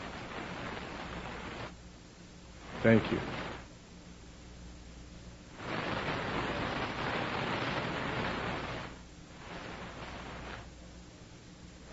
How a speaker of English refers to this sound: sounds like the waves are coming or something. Is that the sound system? It's the air conditioner?